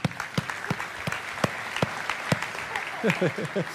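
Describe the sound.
An audience applauds steadily, a dense wash of clapping punctuated by a few sharper individual claps, with some voices calling out briefly toward the end.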